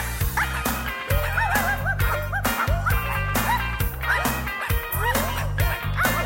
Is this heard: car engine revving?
no